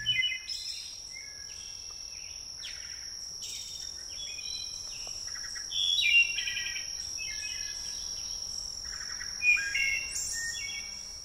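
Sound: wood thrush song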